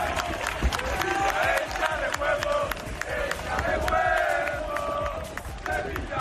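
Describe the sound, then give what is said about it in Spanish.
A large crowd of Sevilla football fans roars and chants continuously as they welcome their team bus before the match against Las Palmas at the Sánchez Pizjuán, with shouts, whistles and scattered clapping filling the air outdoors at a steady, loud level throughout. “Así ha recibido ahora mismo la afición del Sevilla a su autobús.”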